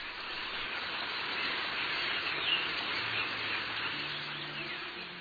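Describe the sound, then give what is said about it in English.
A dense, continuous wash of high-pitched chatter and hissing squeaks from a huge flock of starlings, steady and loud throughout, with countless overlapping calls blurring into a roaring texture. “It was the starling's ability to mimic human speech that prompted Shakespeare to mention it in his play Henry IV.”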